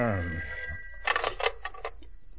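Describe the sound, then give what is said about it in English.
A telephone bell rings at 2 a.m. in a quick run of rattling bursts, fairly loud, after a brief low tonal hum fades out at the start. “it's the phone again.”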